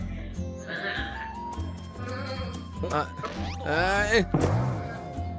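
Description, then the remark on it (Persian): Several quavering bleats of rainbow-coloured sheep ring out fairly loud, overlapping one another toward the end, over a steady bed of soft background music. “دوستای گوسفند رنگی کمونی، من میخوام از پشم نرم و گرمتون استفاده کنم.”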